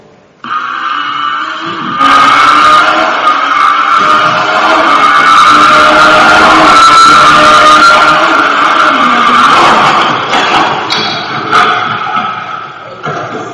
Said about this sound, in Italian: Se voi ascoltate le marce, la faccio in seconda e poi c'è tutta la sequenza fino alla sesta. La sesta mi dava una velocità massima di 318 all'ora, l'avevo tirata quasi tutta, era un po' meno di 200 all'ora.